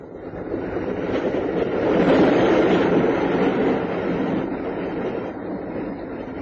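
train running on rails

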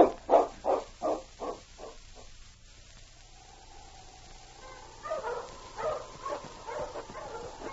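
dogs barking

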